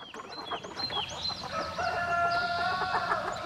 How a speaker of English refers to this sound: Why is the crowing of a rooster so regular, so persistent? Well, within the world of chickens, the established pecking order has the rooster at the top. And apparently, each new day is an opportunity to remind all others of his dominance.